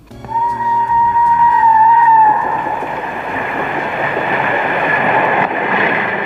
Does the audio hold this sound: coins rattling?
no